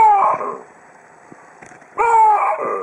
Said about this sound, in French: Alors ne mélangeons pas tout, ce ne sont pas des plantes hein, qui poussent ces cris, mais des babouins. Et si vous tendez bien l'oreille, vous entendez qu'ils enchaînent deux voyelles. Waouh ! Waouh !